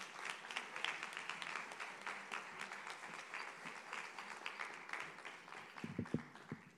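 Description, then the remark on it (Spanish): A crowd applauds steadily at the thirteenth medieval festival of the Embajada y Carnaval in Jódar, greeting the previous pregonero, Juan Luis Morilla López. Many hands clap in a dense, crackling wash that holds at an even level throughout, with a few louder claps standing out near the end. “Un aplauso para Juan Luis.”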